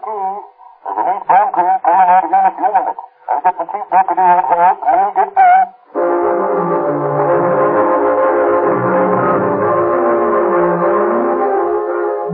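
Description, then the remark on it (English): A voice talks briefly, then a steady, loud rumble of a train climbing through the Cajon Pass takes over, a continuous mechanical roar with deep low-end churning that carries through to the end. “As the three Los Angeles detectives climb through the Cajon Pass aboard one train,”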